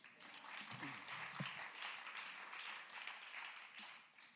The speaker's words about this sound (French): avec Nicolas Yarossi à la guitare et violoncelle, qu'on peut applaudir.